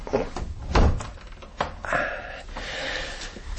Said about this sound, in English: Now wait, I can... I'll just close this door.